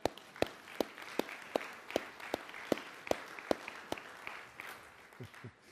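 An audience claps together: a dense wash of many hands with sharp, steady claps landing roughly twice a second, then the applause thins out near the end.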